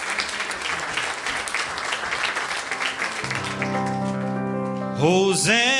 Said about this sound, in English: Why don't you give him a hand clap of praise tonight? He's truly worthy of it.